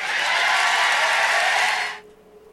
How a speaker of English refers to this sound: The crowd cheers.